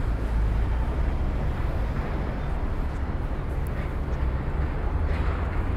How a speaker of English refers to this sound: Oh, very windy. Very, very windy. Construction site. Cars.